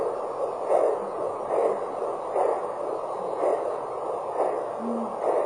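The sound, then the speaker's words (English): A steady adult heartbeat through a doppler monitor, soft whooshing pulses repeating about once per second, roughly 60 to 80 beats per minute, over a constant hiss, with no talking. “Our own thinking is that they should have our heartbeats. And your heartbeat.”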